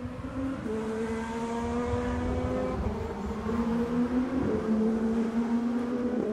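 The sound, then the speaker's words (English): Loud, continuous IndyCar race car engines drone at high revs, their pitch stepping up and down as they shift, with a roaring rumble underneath throughout. “Now the city is getting another kind of horsepower.”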